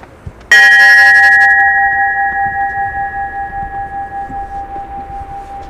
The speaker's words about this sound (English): So I'm going to ring the ship's bell, and I'll invite you guys to join us in that minute of not talking, okay?